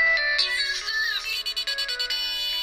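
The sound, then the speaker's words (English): An auto-tuned remix of a Nokia Lumia 928 Windows phone ringtone plays alone, bright electronic tones warbling and sliding in pitch, then breaking into quick rhythmic stutters toward the end, loud throughout. “This is the remix that they did.”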